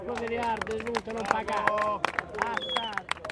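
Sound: crowd applauding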